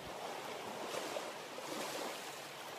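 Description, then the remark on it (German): Soft, steady surf washes continuously onto a sandy beach with a hushed, rolling hiss and gentle swells, with no voices or other sounds. “Je weiter du gehst, desto stärker nimmst du die Geräusche und vor allem das Wasser um dich herum wahr.”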